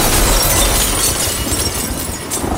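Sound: window glass shattering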